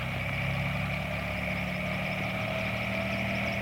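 A helicopter's engine whines and drones steadily as it takes off to fly around Carbondale, a constant, fairly loud mechanical roar with a low rumble beneath a higher hum, and no voices.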